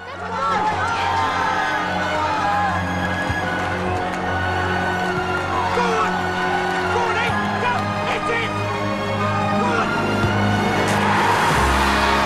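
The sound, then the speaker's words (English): A dense, steady roar of a big crowd of flag-waving football fans cheering and shouting in a stadium at an England versus West Germany match, many voices blending into one loud wash that carries on without a break, with a low rumble underneath. “They squeeze in through the cheering, flag-waving fans.”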